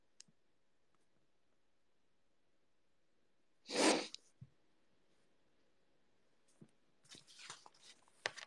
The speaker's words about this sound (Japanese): くしゃみ浴びた？キモいだろ。くしゃみ助かるもキモいだろ。Bless you! Thank you! Thank you!